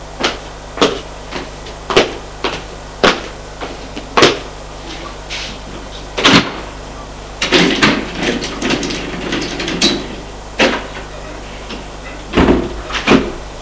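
Window shutters of a dim bedroom being opened by a woman: a series of sharp wooden knocks and clicks, a heavier thud, then a stretch of rattling and creaking before a few final bangs as they swing into place.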